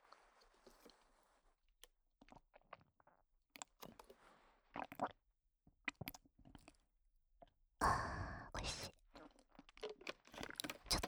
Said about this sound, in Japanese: では、ごくごく ASMR いきたいと思います。